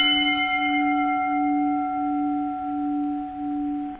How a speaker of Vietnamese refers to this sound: Một tiếng chuông thong thả ngân lên.